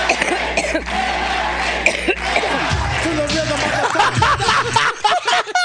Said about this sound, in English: Like, someone just take her cough and do the whole... There's 3 minutes of her coughing. You could do the whole song.